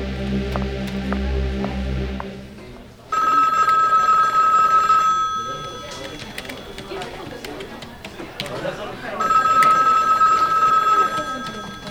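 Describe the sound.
An office telephone rings in two long, loud electronic bursts separated by a pause, with a low hum and some background voices underneath.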